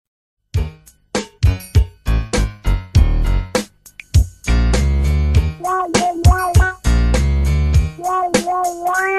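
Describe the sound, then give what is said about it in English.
A catchy jingle from a commercial for a foot odor spray plays loud, opening with punchy staccato chords before settling into a bouncy tune with a bright, sung-sounding melody on top. “And it had this ridiculous jingle.”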